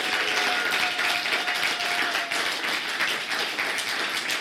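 A church audience stands and claps and applauds steadily for several seconds as a clapping offering to Jesus during a service, a dense, continuous wash of many hands, with a faint sustained tone running beneath it early on.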